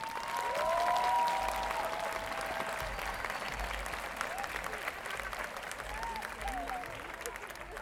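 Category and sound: crowd, audience applause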